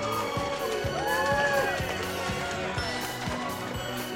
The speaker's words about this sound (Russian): Итак, а теперь нам нужно выбрать победителя. Для этого вы нам поможете. Теперь я буду называть каждого члена по очереди, и вы будете хлопать ему, понравился вам он или нет. Итак, начнем с команды Милкис. Милкис.